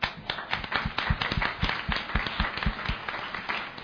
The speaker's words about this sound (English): Because the panelists may not answer that question on let's create a movement to end gender-based violence as a statement of commitment other than a question. We clap for that?